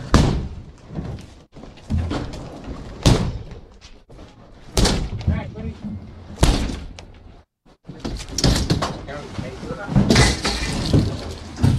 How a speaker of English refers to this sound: And so they're knocking down the door for those that are listening in and going in. And they're having the squatter squad come in and remove them.